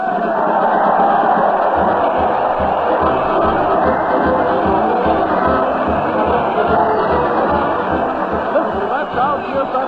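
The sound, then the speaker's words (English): A large crowd at a parade to the old town hall cheers and shouts continuously, hurling insults, a dense, loud wall of many voices that holds steady for the whole stretch without letting up. “the crowd is hurling insults at the mighty Allen Art players”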